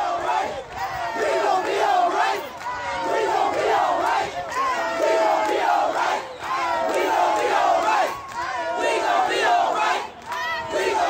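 A large crowd of protesters in Cleveland chants a song's refrain in unison, loud and rhythmic, voices rising and falling together in steady cycles with an energetic, rallying feel, after an altercation in which police used pepper spray on the crowd.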